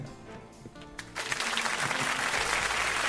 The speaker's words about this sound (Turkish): Bir alkış istiyorum lütfen.